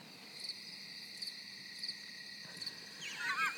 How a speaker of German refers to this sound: Hört man das? Das sind Grillen. Ja, das gefällt mir aber vom Soundeffekt noch nicht. Also ich werde mir das mal jetzt endlich einstellen, dass ich das Grillenzirpen parat habe, wenn du wieder sowas Lustiges erzählst.